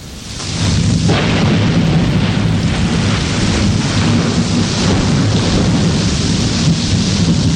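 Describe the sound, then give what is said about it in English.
Steady, heavy rain pours down while a deep, continuous thunder rumble rolls underneath, swelling in within the first second and staying loud and unbroken throughout, with no voices. “This rain brings nourishment to the landscape and gardens.”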